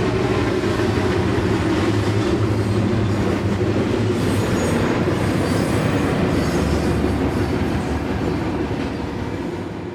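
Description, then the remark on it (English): A train rumbles past an airport Marriott hotel, a loud, steady low roar with rhythmic wheel clatter and faint metallic squeal, holding strong for the full span before easing slightly at the end. No one speaks. “Not only airplanes, but trains.”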